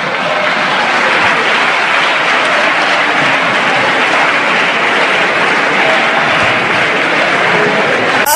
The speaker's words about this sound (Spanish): No me refería a ninguno de ustedes, no sé por qué aplauden.